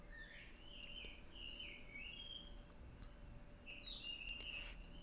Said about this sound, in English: You hear this bird out here, this jungle bird? It's so happy that you've all come to this point in your perfect pitch ear training.